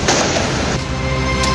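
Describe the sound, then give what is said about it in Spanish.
Loud, dense crackling and popping of firecrackers, flares and fireworks launched both vertically and horizontally toward Carabineros police during violent incidents, with sharp bursts repeating over a continuous roar of noise and no clear pauses between blasts. “Ahí ustedes escuchaban entonces cuáles eran las características de los petardos, las bengalas, los fuegos artificiales que se utilizaron, hay que decirlo, lanzándolos de manera vertical pero también horizontal hacia Carabineros,”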